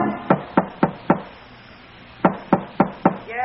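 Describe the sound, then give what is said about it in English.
Two sets of four sharp, evenly spaced knocks on a door, separated by a pause of about a second; the raps are loud and clear with a hollow, woody tone. “Who is it? Regan. You alone? Don't be insulting. I'll open the door.”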